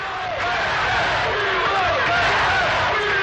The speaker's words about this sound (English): First, people gathered by the hundreds outside the Justice Building near Jackson Memorial Hospital. The crowd sang old civil rights songs, then began chanting. Then shouting.